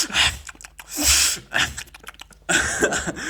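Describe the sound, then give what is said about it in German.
A voice imitates a father's loud, snorting breaths while he eats noisily: several harsh, breathy bursts in an uneven rhythm, fairly loud, with no talking. “Oder wenn er irgendwas isst, dann schnauft er so richtig doll dabei.”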